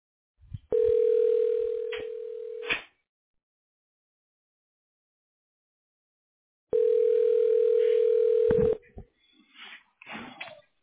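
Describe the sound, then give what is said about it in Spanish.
A telephone line tone after a call suddenly dropped when the signal was lost: two steady, buzzy mid-pitched tones, each about two seconds long, separated by several seconds of silence, followed by brief scattered clicks and rustles. “Se cayó la llamada así de repente y le intenté marcar como que se nos fue la señal a ambos.”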